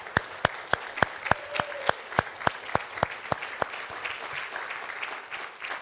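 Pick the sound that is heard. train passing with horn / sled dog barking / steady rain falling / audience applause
audience applause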